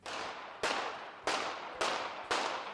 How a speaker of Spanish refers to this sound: ¿Cuántos tiros ha recibido realmente el primer ministro de Eslovaquia, Robert Fico? Que han sido 5, está claro, y tenemos además el audio.